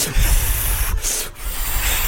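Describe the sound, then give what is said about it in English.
A balloon being twisted into a ghost balloon animal: steady rubbery rubbing and squeaking for about two seconds, loud and unbroken except for two quick pauses midway, with no one talking. “a little ghost balloon animal? Yeah, maybe a ghost. All right, well, I'm gonna do one right away.”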